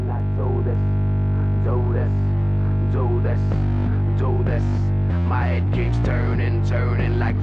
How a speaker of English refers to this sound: Yeah, basically when the song starts, there's just this droney sound. Mm-hmm. And that droney sound is, there's no instrument creating that sound. That's just this broken distortion pedal.